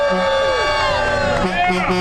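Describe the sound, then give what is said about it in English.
A crowd cheers and whoops loudly and steadily for about two seconds, with many overlapping voices shouting and calling out at once, as people come out of a small box after a fundraising stay, live on Great Day at 9A. “Let's hear the crowd.”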